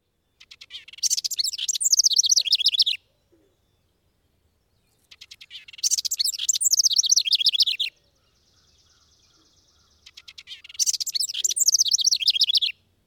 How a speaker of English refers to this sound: As you continue on the trail, listen for the bubbling song of a house wren.